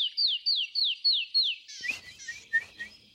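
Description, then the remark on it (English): A canyon wren sings a series of clear, descending whistled notes in a steady cascade, then switches to a few short, raspy buzzy calls and sharp chips at the end. “Canyon Wren is one of my all-time favorite bird songs because it's just this beautiful set of whistles that are cascading.”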